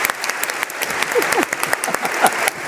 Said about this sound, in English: So thank you so much for coming, and let's give a big round of applause to my questioners.